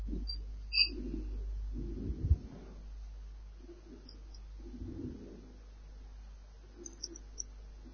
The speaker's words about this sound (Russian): Вот такая птичка. Милая.